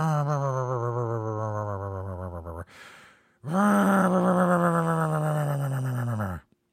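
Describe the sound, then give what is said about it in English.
A voice imitates the chainsaw of Leatherface from the Chainsaw Massacre as an off-camera sound effect: two long, loud, buzzy droning tones, separated by a short breathy gasp, the second starting with a rev before settling and cutting off. “So maybe if they would have broke and it didn't run, they just have to have the Chainsaw Massacre dude, Leatherface, like running after people and have like, you know, somebody off camera going.”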